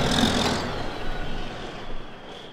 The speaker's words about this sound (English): This is timber country, as evidenced by the fully loaded logging trucks rumbling through town.